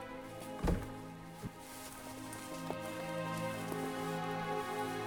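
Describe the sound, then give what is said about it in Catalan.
A door shuts as a woman follows a man out and closes it behind them, with one solid, low thud, followed by a softer knock and a couple of faint clicks over a steady humming background. “A la porta, la Marta convida en Guerau a anar-se'n i l'home obeeix. Ella surt rere seu i tanca.”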